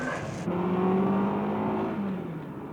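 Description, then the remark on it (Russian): A car engine revs up and pulls away, its steady hum rising in pitch as the vehicle accelerates, then easing slightly. No voices are heard. “Надеюсь, в машине вас тоже не укачивает.”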